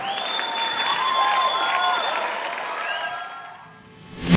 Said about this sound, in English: Thank you for keeping the applause break.